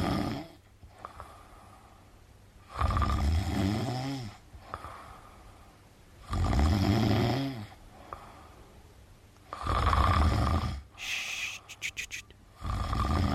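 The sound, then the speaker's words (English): A tired man snores steadily in his sleep in an office two doors down from a radio studio on a Monday morning: four loud, rasping inhalations come at regular intervals of about three seconds, with quieter breathing between them and no talking. “Don't want to waken him. It's understandable he is tired because that's him on a Monday morning at about this time.”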